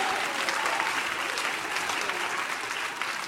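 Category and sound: crowd, audience clapping their hands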